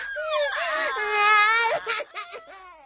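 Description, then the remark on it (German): A baby wails loudly and steadily in a long, high, wavering cry, then breaks into shorter whimpering sobs near the end, alone. “Die Babys nörgeln und quengeln und schreien und greinen”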